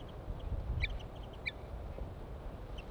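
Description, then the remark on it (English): A male bird chitters as it approaches, in short, high-pitched bursts, a few quick clustered notes repeating irregularly over a steady low rumble of background noise. “Male chitter on approach.”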